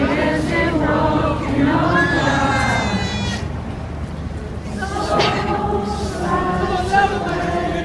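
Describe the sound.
A large crowd in Manchester breaks into an impromptu song together after a minute's silence for the victims, many voices blending into a loud, sustained melody with long held, wavering notes that carry on steadily from start to finish.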